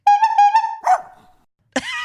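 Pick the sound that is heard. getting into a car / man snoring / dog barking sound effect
dog barking sound effect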